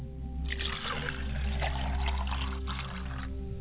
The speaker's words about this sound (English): I pour libations to the South. Ashe. I pour libations to the North, and I say, Ashe.